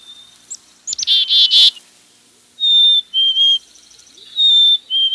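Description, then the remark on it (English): A black-capped chickadee sings clear, pure whistled notes in pairs, high then slightly lower, after a few quick buzzy chirps at the start, against an otherwise quiet background. “The black-capped chickadee has many admirers.”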